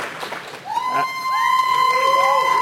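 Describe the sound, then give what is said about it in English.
A live audience, asked who loves Super Metroid the most, cheers and shouts, swelling from scattered voices into a sustained roar with high whoops and sliding yells rising above the dense noise. “Fudge Factor, who just loves Super Metroid the most? Like, really make those voices heard.”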